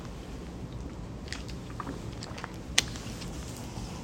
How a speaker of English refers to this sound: Excuse me one second. Quick water break.